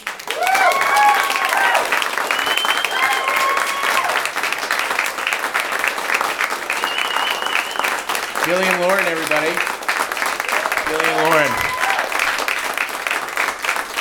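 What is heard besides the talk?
audience applause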